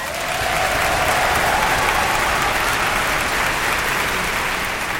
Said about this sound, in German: wir begrüßen mit einem tosenden Applaus Cornelius Meister